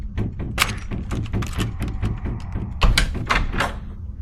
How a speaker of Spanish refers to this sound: Además de la cruz, había un púlpito, un pequeño altar y la puerta que no dejaban de sacudir. Detrás de esa puerta únicamente se guardaban sillas, manteles, los micrófonos.